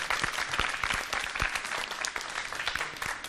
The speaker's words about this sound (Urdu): ایک مرتبہ ان کی حوصلہ افزائی کے لیے زوردار تالی.